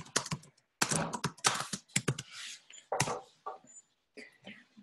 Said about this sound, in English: And I will just type this in here.